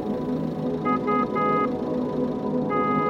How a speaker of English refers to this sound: Why are they pressing the car horn?